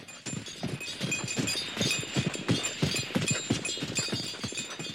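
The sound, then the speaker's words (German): Steady clip-clop of horse hooves on a hard street with a carriage rolling along, the rhythmic beats fairly loud and continuous, with no voices. “Da höre ich einen Wagen auf der Straße.”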